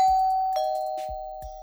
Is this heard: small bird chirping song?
no